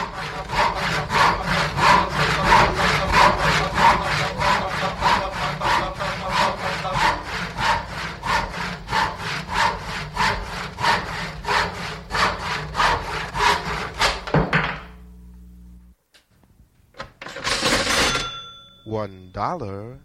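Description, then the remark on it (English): A hand saw cuts through wood in fast, steady back-and-forth strokes for about fourteen seconds, loud, then stops, followed by a short squeaky, scraping rattle. “And then halfway through, you get sounds of a saw or a drill or doors opening.”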